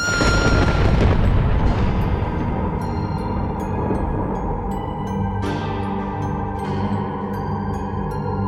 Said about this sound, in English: Just then, I heard what could only be a scream. It was immediately swallowed up in a pounding thunder.